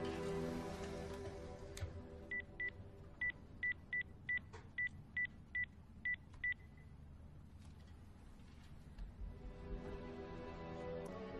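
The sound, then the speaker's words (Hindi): A telephone number is dialed as a quick run of about ten clear touch-tone beeps over a steady background hiss like rain. No one speaks. “माफ़ी चाहती हूँ, बेमौके फ़ोन किया।”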